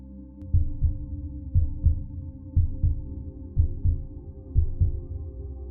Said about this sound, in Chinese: 接着暂停一下，把手 放到胸口，感觉一下心跳的脉动。